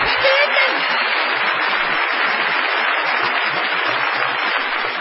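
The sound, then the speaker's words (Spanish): A large audience at the Sodre in Montevideo, Uruguay, gives an ovation, applauding steadily and loudly, a dense wash of clapping hands that holds at a constant level for the full five seconds with no pause. “No menos inmerecida será la ovación tributada a …”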